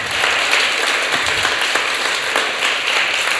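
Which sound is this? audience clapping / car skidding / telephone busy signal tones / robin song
audience clapping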